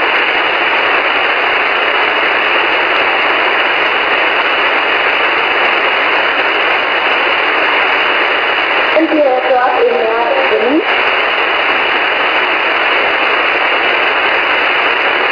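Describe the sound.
Steady, narrow-band amateur radio static hisses throughout, with a brief burst of garbled, distorted voice breaking through near the middle before the hiss carries on alone. The radio contact is made from Antarctica.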